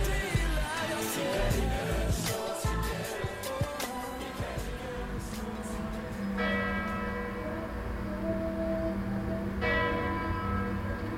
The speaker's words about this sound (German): Die Rathausuhr von Kopenhagen läutet den Abend ein.